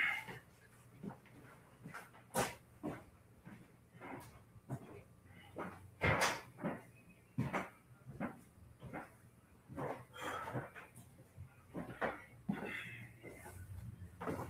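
A door is opened to let air in, amid a string of sharp clicks and knocks, like footsteps and handle rattling, spaced irregularly over quiet with a faint low hum.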